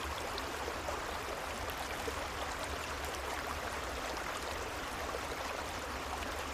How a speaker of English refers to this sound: And if you'd like, you can imagine you're laying beside a beautiful, gently flowing creek. And this sound of the creek will go on after the guided portion is over to help you fall deeply asleep.